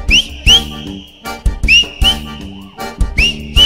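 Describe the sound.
Short, rising whistle notes repeat in a steady rhythm over a loud, thumping dance beat, the whistling bright and upfront with brief gaps between phrases.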